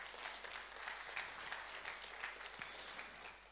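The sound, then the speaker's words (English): Steady applause from a crowd welcoming the speaker's wife up to join him, a dense wash of many hands clapping at a fairly even loudness throughout, with no voices standing out. “I'm not sure why she gets a clap and I don't.”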